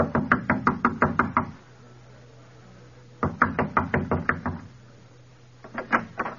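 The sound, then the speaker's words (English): Three bursts of rapid, hard knocking on a door, about seven raps each in the first two and a shorter flurry at the end, separated by brief quiet pauses with a low hum beneath. “Knock at the door.”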